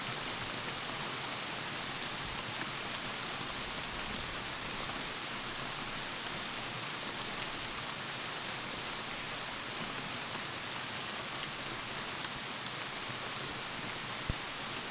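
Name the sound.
steady rain falling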